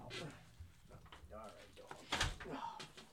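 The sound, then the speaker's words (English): The door of a room in a house swings shut with a solid thud about two seconds in, amid faint muffled voices and room noise. “So the door has to be open. All right, close it.”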